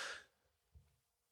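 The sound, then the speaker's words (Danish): A dog that the speaker is looking after snores faintly: one breathy, hissing exhale followed by a soft low snuffle, heard alone. “Hvis nogen var i tvivl om, hvad den lyd var, så er det, fordi jeg passer en hund. Hunden, der snorker.”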